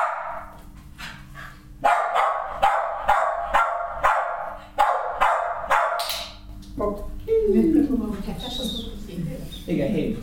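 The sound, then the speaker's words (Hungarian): A dog in training barks repeatedly, a steady run of sharp barks for several seconds, signalling a ball lying on the ground instead of picking it up, then the barking gives way to softer squeaky, whining sounds. “Amikor elküldöm a kutyát, nem fogadja meg a labdát, csak ugathat.”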